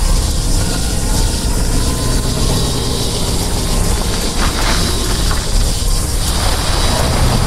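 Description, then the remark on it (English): A red truck's engine runs at a loud, steady roar with a rattling mechanical clatter mixed in, holding an even level throughout with no voices. “She runs back out and the two women enter a red truck.”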